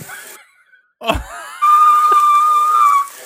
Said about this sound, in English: That is not extraterrestrial, I promise. That is my whistle.